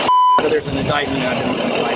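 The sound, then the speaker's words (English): A single loud, sharp electronic warning beep from a car left running sounds at the start, then gives way to muffled background voices and ambient noise. “didn't turn the car off.”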